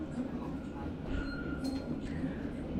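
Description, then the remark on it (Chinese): A steady rumble of a subway train running, heard from inside the carriage where a passenger is seated, with a faint metallic whine and occasional light clinks over the continuous low roar. “你那边地铁挤吗？我还坐着呢，你像我一样吗？”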